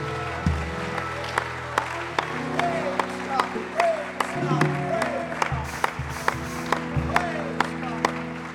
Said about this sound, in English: Come on, one more time. Why don't you clap your hands and lift up a shout of praise?